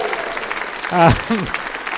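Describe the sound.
Steady audience applause fills the whole stretch, a dense patter of clapping, with a brief voiced cheer or shout rising over it near the middle.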